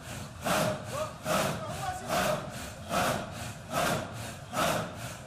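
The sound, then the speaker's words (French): A group breathes in unison, a chant of the name of Allah reduced to breath, loud and rhythmic, each harsh rasping in-and-out stroke repeating steadily about once a second like a saw working through wood. No one speaks. “Ce souffle phénoménal, l'écrivain Jean-Marie Gustave Le Clézio, dans son livre « Désert », le compare au va-et-vient d'une scie immense dévorant le tronc d'un arbre”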